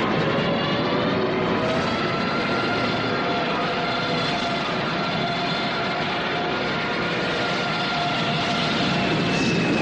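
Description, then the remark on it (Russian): A loud, continuous droning roar of warplane engines passing overhead above Red Army soldiers' trench, thick and steady with layered engine tones throughout, no voices. “Щурясь, Лисиченко провожает проходящие над ним самолеты.”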